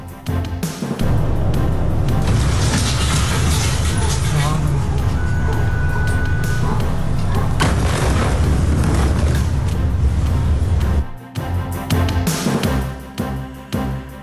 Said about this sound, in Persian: وقوع انفجار بزرگ در بیروت، تمامی پایتخت لبنان و حومه آن این انفجار بزرگ را شنیدند